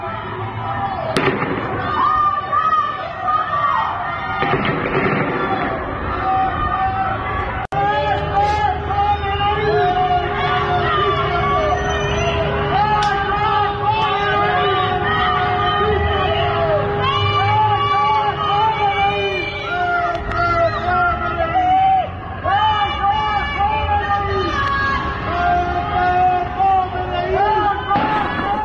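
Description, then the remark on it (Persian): A large crowd of prisoners on a prison rooftop shouts and yells continuously in a dense, overlapping roar of raised voices, punctuated by several sharp bangs and pops, a few loud cracks standing out near the start and middle. “به یکی از همین صداها با هم گوش کنیم. شما میبینین زندانی ها رو پشت بومه، همه معلومه.”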